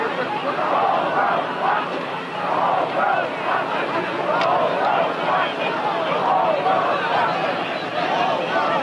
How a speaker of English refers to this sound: Persistent chanting by the crowd, the whole world is watching.